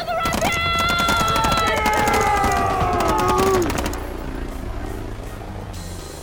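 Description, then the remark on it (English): Rapid bursts of rifle fire aimed at a helicopter crackle over a steady mechanical drone and falling whines, lasting about four seconds before fading into a lower rumble. “Grab a rifle off the squad leader and fire at the helicopter!”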